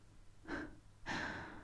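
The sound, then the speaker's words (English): Heavy breathing with two breathy, airy breaths, a short one followed by a longer, louder one after a brief pause. No voices. “your breathing is so heavy.”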